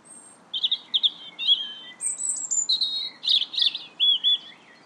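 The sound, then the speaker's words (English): A tiny bird chirps in quick, high bursts of bright notes and trills, clear, repeating over the soft steady rush of a river, in Hazelwell Park in the mid-evening around 9:15 before the sun has fully set. “That's a tiny, tiny bird.”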